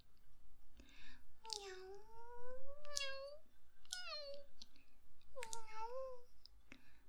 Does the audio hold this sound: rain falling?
no